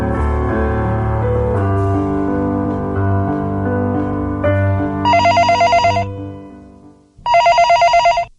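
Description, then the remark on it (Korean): A telephone at a boarding house rings with an urgent call in two rapid, loud trilling bursts, over a sustained musical backdrop that fades out just before the second ring. “어느 날 하숙집으로 다급한 전화가 걸려왔습니다.”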